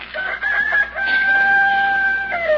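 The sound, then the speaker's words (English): A rooster crows loudly, one long drawn-out cock-a-doodle-doo with a strained, piercing tone that holds steady before dropping off at the end. “You've been crowing since daylight.”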